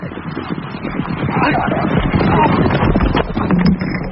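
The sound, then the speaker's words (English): Horse hooves clop steadily on Pembridge Road, a rapid run of hard knocks half-buried in a dense, rushing wash of wind-like noise that stays loud throughout. “I've just been knocked down by a horse.”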